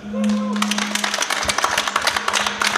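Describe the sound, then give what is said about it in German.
A small live audience at a live show applauds with a dense patter of clapping that starts almost immediately and carries on steadily, moderately loud, while a low humming tone of audio feedback rings underneath at the beginning. “Und damit man euch auch mal hören kann, gebt noch mal so einen kleinen Applaus.”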